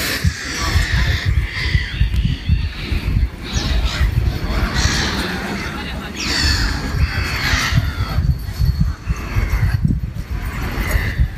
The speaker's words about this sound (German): Ah, die Möwen. So schön, die Geräusche. So cool.